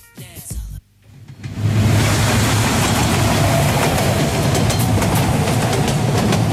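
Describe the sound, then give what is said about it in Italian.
A train to Harlem riding on rails rumbles loudly and steadily, with faint rhythmic clacks running through the roar after a brief quieter opening. “i due amici sul treno che riprendono il treno che portava ad Harlem”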